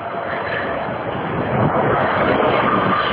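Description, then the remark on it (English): A steady, heavy rumble of a bus driving past, a broad engine and road roar that swells slightly louder toward the end, with no voices over it. “Goodbye, bus.”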